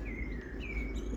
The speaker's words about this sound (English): And the dogs' ears prick up as they hear the birds singing and tweeting around them.